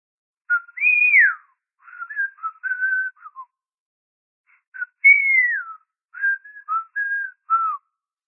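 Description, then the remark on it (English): Swedish people whistling on the other side of a door: a short tune in two phrases, each a run of rising and falling notes, separated by a brief pause. Moderately loud, with no talking. “On the other side of my door, the Swedes start whistling.”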